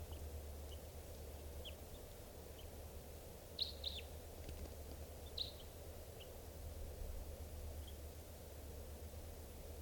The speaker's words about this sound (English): Just captured that bird, and he will be number 630.